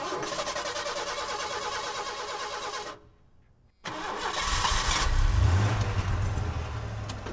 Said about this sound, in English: You see what I mean? Does that sound like a mobster's car? It doesn't. It's a piece of shit.